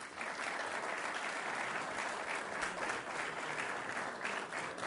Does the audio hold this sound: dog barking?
no